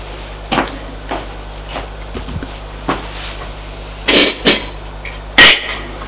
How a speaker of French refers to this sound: C'est Maria qui entre avec le plateau du petit déjeuner. Elle porte sur la table.